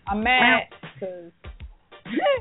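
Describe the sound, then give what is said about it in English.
A person imitates a cat's meow with a drawn-out, fairly loud vocal whine. A few short spoken syllables follow, then another rising, sliding vocal sound. “Meow, y'all.”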